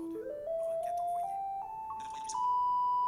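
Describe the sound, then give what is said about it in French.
A smart home confirmation chime as a stairway light switches on by voice command, heard through Sign AI: a steady electronic tone climbing in several small pitch steps over about three seconds, with faint bursts of hiss above it. “Je vais vous activer Sign AI pour qu'on puisse entendre le son si la lumière est allumée ou éteinte.”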